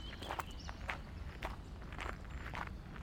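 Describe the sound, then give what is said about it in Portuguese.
A flute player walks slowly along the road outside the town at 5 a.m., just after sunrise, with birds singing: slow, steady footsteps crunch, each step a soft scuffing thud about every half second, with a faint high chirp early on and low background rumble throughout. “O flautista veio então caminhando lentamente pela estrada.”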